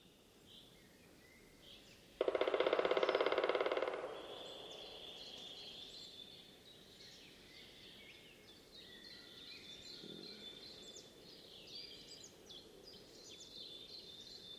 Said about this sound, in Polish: Oj, tego chyba nagramy, bo jest blisko. Widzę właśnie wyryte, niesamowite wyryte przez dzięcioła czarnego. Tu bębni za dobrze, trzeba go nagrać.